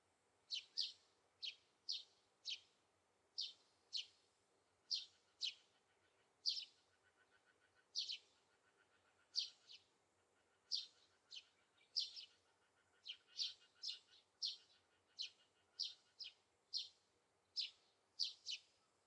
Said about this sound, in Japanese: そろそろ鳥のさえずりとか、葉っぱが風に揺れる音とか、聞こえてきたかな。